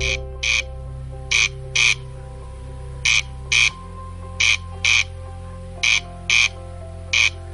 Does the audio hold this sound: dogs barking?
no